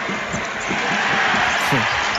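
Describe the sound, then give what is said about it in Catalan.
Kyle Gail dribbles a basketball across half court for Joventut in the last minute of a game at 76–67, a steady series of dull, regular bounces set against a loud, constant roar of arena crowd noise. “Pilota per Kyle Gail, botant la mitja pista, atacant llarg el Joventut, defensat per Sasso Salin.”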